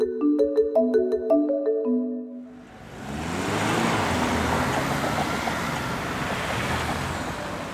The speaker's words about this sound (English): It's a busy weekday morning at Margaretenstrasse in Vienna, and cars are lining up outside a gas station.